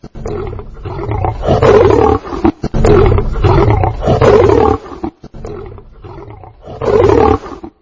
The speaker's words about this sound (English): You're walking along in the African bush, minding your own business, nothing in your hand, when all of a sudden you see this. A mad, growling, male African lion coming right at you.